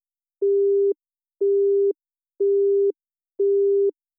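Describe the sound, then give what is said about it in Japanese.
A telephone busy tone after a silent call was cut off: four identical steady beeps, each about half a second long with equal gaps between, clear with nothing else around them. “電話はそのまま切れてしまいました。”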